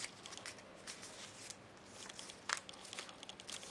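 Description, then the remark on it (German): Soft paper rustling and crinkling as paper strips are repeatedly folded, the lower strip over the upper, and pressed down, with small creases and presses, a sharper crackle midway, continuing steadily with no voices. “Und erneut den unteren über den oberen knicken.”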